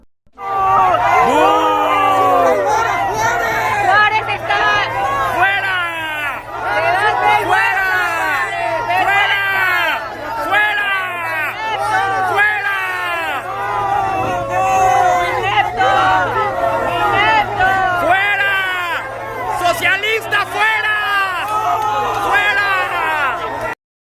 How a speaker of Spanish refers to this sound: Vamos a ver estos videos donde se escucha cómo lo abuchean y le gritan.